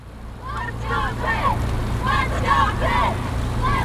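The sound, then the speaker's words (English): Outdoor riverside ambience at the Head of the Ohio, a fall rowing regatta on the river in Pittsburgh: a steady low boat-engine rumble and wind noise, with voices calling out in short bursts over the water. “This is sound from the head of the Ohio, a fall regatta in Pittsburgh.”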